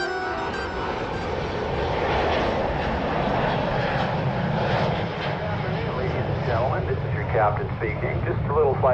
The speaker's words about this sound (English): We're currently flying at an altitude of 30,000 feet, and our airspeed is 420 miles per hour.